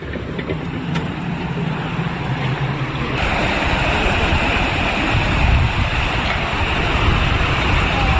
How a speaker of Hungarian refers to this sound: Piros fősőben van egy bácsi, és el kell itt tekerni most a zsilipet. De csak annyira, hogy egy kicsit az aljából elkezdjen csorogni a víz.